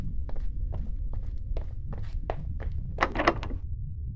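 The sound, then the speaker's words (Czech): Someone shoves against a locked door leading from a kitchen to a veranda, producing a series of dull thumps and rattles at an uneven pace, with a louder burst of knocks near the end over a low background rumble. “Ani se nehnou.”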